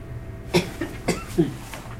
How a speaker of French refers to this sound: Et c'est depuis ce soir que vous toussez comme ça, que vous avez ces glaires ? Oui, il y a un moment que je tousse, vous savez.